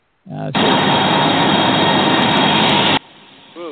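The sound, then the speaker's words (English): A loud, steady jet engine roar from a 1011 airliner on a flight down to Orlando, like an airliner cruising, cuts in abruptly, holds for about two and a half seconds, then stops sharply, followed by a brief voice. “We're using a 1011 tonight for our flight down to Orlando. So it should sound a little bit like this right here.”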